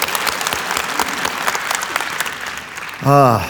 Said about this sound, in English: And of course, I want to welcome our city campus that's now connected to us at Life Changers, downtown Chicago. Come on, let's give them a real big hand.